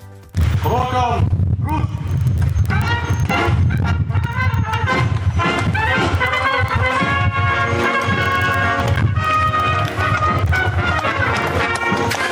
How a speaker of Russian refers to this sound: Под звуки марша, рев мотоциклов и топот копыт начался первый рабочий день туристической полиции Мариуполя.